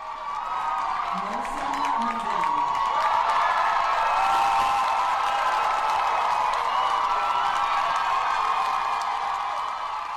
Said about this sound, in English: On Monday, Palestinian student Mohsen Madawi walked across the stage to receive his GS diploma from the Columbia University School of General Studies. Students erupted in thunderous applause. There was a standing ovation.